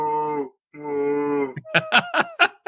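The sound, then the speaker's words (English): A person imitates a cow with two drawn-out, low mooing calls, each about half a second long, followed by a string of short, choppy vocal bursts. “So you're actually creating the animal that would create the carne asada. Yeah. The cow goes.”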